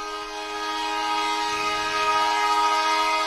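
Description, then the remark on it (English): The Dhaka-Calcutta Express passenger train, travelling from Bangladesh to India, sounds its horn in a long, steady blast with strong harmonic tones over the rumble of the running train; no one speaks. “Oh yes, that's the Dakar-Calcutta Express. Passenger trains are travelling from Bangladesh to India today.”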